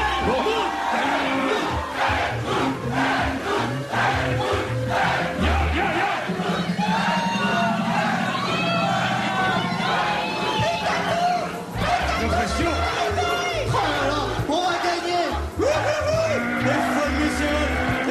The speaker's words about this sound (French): Et des pancartes commencent à apparaître un peu partout dans les tribunes. Et la foule est debout, elle chante son nom.